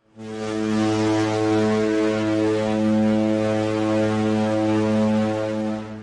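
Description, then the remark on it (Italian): A ship's horn signalling arrival in port sounds one long, steady, deep blast lasting about six seconds, rich in harmonics and holding a constant loud pitch before cutting off, with no voices present. “Arriva puntuale la nostra sirena, ci mette al corrente che stiamo giungendo in porto”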